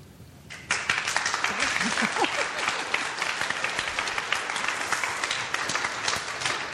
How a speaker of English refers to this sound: Tell you that board really, really deserves applause.